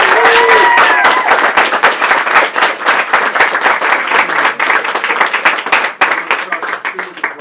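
A crowd breaks into sustained applause, dense rapid clapping that stays loud and steady for several seconds, with a few faint whoops and voices mixed in early on.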